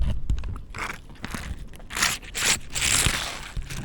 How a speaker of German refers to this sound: das ist eine Capri-Sonne, falls ihr es gerade gehört habt. Also, kannst du es nochmal anmachen?